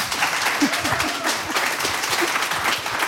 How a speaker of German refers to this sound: Vielen herzlichen Dank für den frenetischen Applaus.